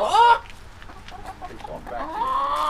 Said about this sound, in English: Which little chant gets his chickens clucking? Bawk is the more traditional word, … tells me.